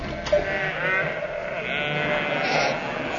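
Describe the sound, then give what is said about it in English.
Sheep bleat in a steady, wavering chorus, several voices overlapping at moderate volume, coming from another room of a house, with no talking. “Curse it! More sheep.”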